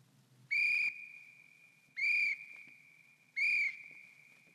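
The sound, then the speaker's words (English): Three short, shrill whistle blasts spaced evenly apart, loud, with a thin high ringing tone lingering between them over a quiet background. No one speaks. “Sounds one and two were whistles.”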